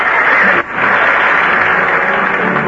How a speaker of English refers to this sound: Duke's the one that deserves the applause.